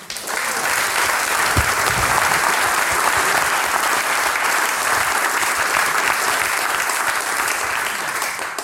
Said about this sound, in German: Bitte einen kräftigen Applaus für die zwei super Burschen.